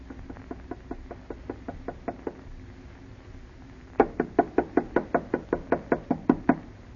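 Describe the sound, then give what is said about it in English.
Knocking on the wooden door of a house: a quick, soft series of raps, a pause, then a louder, firmer burst of about a dozen evenly spaced knocks, with no talking. “Harder, Alice. Knock harder.”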